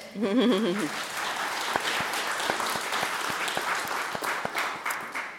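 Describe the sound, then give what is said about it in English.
An audience breaks into steady applause for panelist Bruce Pascoe, novelist, editor, farmer and author of Dark Emu, a dense wash of many hands clapping at even loudness for several seconds, with a brief wavering voice-like tone at the very start. “Perhaps best known for his work, Dark Emu, by all means. Applaud.”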